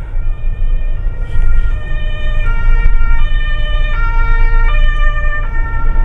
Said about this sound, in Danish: Så fandt jeg et, når der kom lige en udrykning.